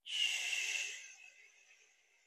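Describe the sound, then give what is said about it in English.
A slow, airy exhale during a guided breathing exercise, with a soft hissing rush of breath that starts at once, then gradually fades and thins out over about two seconds. Fairly quiet, with no talking. “And let the air out slowly.”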